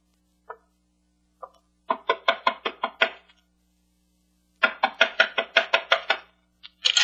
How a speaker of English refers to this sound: Knock on the door